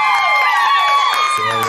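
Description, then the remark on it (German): A short, loud burst of inserted crowd cheering and applause sound effect, with high whoops and whistling tones rising and falling over the din, lasting under two seconds. “An dieser Stelle bitte Applaus einblenden.”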